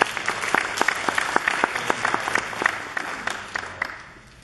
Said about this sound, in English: And for 82 families to make that commitment with us this year is just an awesome thing. So give yourselves a round of applause for being a part of.